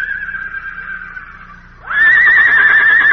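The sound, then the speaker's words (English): A wild stallion, a big red horse up on a cliff overlooking a mesa, neighs loudly, a long sustained whinny that dips briefly then surges into a strong, quavering call, heard alone without talk. “Hey, it's a wild stallion.”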